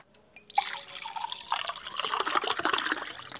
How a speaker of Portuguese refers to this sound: Primo, vou tirar aqui a máscara só um instantinho enquanto eu bebo água, tá?